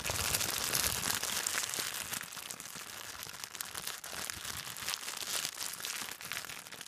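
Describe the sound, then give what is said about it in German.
Continuous rustling and crinkling of material, dense and crackly with bright high-end texture, steady in loudness throughout without any speech. “Das heißt, bei dem einen springt tatsächlich etwas an, bei dem, was weiß ich, Rascheln von zum Beispiel sowas.”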